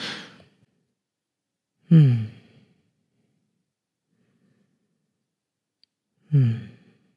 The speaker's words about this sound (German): Ich höre dann auch am wie gut ich ausatme und mein Ausatmen, der zerfasert so. Ne? Mhm. Das heißt, die Verbindung ist einfach noch nicht da. Ich mache es nochmal.